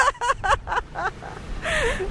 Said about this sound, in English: We just heard Bush is great out of a car window.